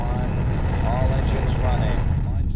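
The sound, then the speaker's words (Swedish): A deep, steady roar of a rocket's giant engines starting to spew fire ten seconds before launch fills the whole stretch, loud and unbroken with heavy low rumble, while faint voices seem to murmur beneath it. “Med 10 sekunder kvar hörs ett kraftigt buller nerifrån när de jättelika motorerna börjar vräka ur sig eld.”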